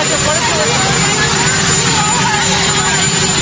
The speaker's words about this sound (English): Boy, that's loud with that jet. Sorry, you have a helicopter roaring in the background.